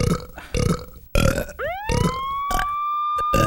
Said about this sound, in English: In honor of this special occasion, I will now perform my special belching version of Happy Birthday. No, Ina, don't! I don't care if you think it's gross, it's my special talent.